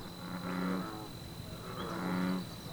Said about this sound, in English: You wake up to the song of dusk. Frogs croaking, crickets chirping. The day critters are going to bed, and the night owls are taking flight.